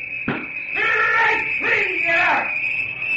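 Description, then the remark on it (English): A baseball stadium crowd roars in two loud, rising waves of cheering and yelling as pitcher Brush begins to pitch against the Detroit Tigers, with a steady high-pitched tone running underneath the whole time. “I didn't believe it, and neither did the crowd.”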